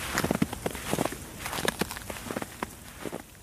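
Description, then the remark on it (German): Steady footsteps crunch and creak through deep snow in cold winter weather, with a soft rustling texture to each step over a faint hiss of a stiff breeze blowing through icy branches. No one speaks. “Steife Brise bläst durch vereiste Äste, knarzende Schritte im tiefen Schnee.”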